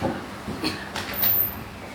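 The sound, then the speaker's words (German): Street traffic drifts in through an open doorway as a steady rumble, with a couple of whooshing swells and a brief high-pitched squeal partway through; no one speaks. “Es ist so erstaunlich, wie viel Verkehr hier noch ist.”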